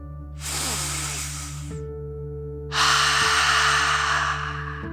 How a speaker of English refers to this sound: Before we begin our story, let's relax by taking a nice deep dragon breath. Breathe in through your nose, filling up your belly, and then out through your mouth, imagining you are breathing fire like a dragon. Ready? Deep breath. In and out.